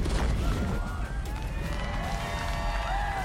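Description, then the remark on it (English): An elephant trumpets in a long, wavering, brassy call that glides up and down in pitch, heard over a steady roar of crowd noise and low rumble, in Tuscaloosa, Alabama, on College Football Live before the LSU vs Alabama game. “Is that the Denny Chimes I hear? Well, that was an elephant.”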